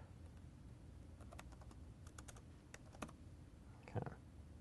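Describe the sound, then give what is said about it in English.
Quick bursts of keyboard typing in Visual Studio to comment out code, a series of light, irregular clicks in short clusters, ending with a slightly heavier keystroke; no one speaks. “Let me just comment this out.”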